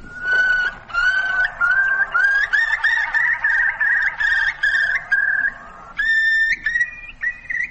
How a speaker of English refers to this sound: this is the same bird's bubble song.